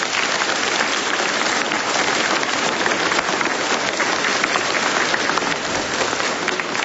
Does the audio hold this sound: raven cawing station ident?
no